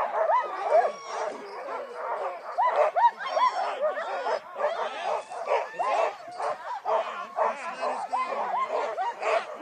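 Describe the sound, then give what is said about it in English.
A loud, dense chorus of sled dogs barking and yipping nonstop, many voices overlapping, with excited high whines mixed in throughout, as two dog sled teams get ready to pull out. “So yeah, dogs are like, this is what it sounds like.”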